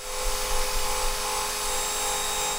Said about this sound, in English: Gordon Ponsford and his crew are buffing away the decals on the T-33 trainer that sits along Main Street at Field Kinley Memorial Park.